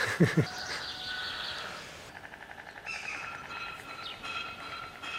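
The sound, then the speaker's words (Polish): A white stork turns back its bill and clatters it in a rapid, dry rattle of wooden knocks, rising and falling in bursts after a few heavier thumps at the start, with no voices. “Jeden drugiemu żaby przynosi, to ten drugi w podzięce właśnie odwraca dziób i klekocze.”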